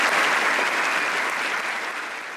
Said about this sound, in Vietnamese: Nhưng đây là phản ứng của các khách mời ngày hôm đó. Một sự hoan nghênh nhiệt liệt, kèm theo một tràng pháo tay vang dội dường như không bao giờ kết thúc.